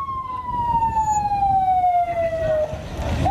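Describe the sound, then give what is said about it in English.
An ambulance siren wails loudly in a long, slowly falling tone, then starts a new rising note near the end, over a rumble of traffic and crowd noise, as the ambulance transports a protester injured in clashes at the Gaza border. “An ambulance transports one of the dozens of protesters injured in Friday's clashes at the Gaza border.”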